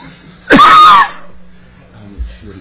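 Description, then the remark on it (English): A single loud, harsh cough bursts out, lasting about half a second, then fades into quiet background noise with a faint low thump afterward. “When I start coughing, it means that that was editorial.”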